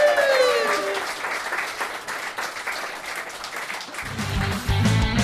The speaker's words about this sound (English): Round of applause at the end of that round. Yay!